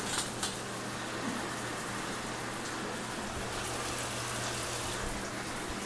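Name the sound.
shower water running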